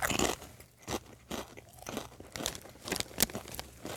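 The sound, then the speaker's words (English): Loud crunching of kettle chips being chewed, with a series of sharp, irregular bursts of crisp snapping spread across a few seconds and no talking. “Apologizing for the loud crunching here, because we got some kettle chips going on.”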